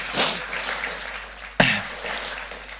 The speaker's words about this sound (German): Come on, gib mal Jesus einen Applaus.